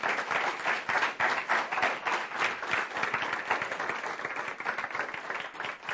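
An audience breaks into sustained applause to welcome a speaker invited up to talk, a dense, steady patter of many hands clapping at a fairly loud, even level for several seconds without letting up.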